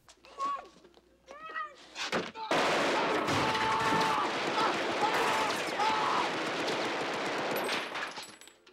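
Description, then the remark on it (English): A few short, high wavering cries are followed by an abrupt eruption of loud, continuous machine gun fire, a shooting in a phone booth from the film The Cotton Club, that rattles on densely for about six seconds before tapering off. “The Cotton Club, Shot in Phone Booth.”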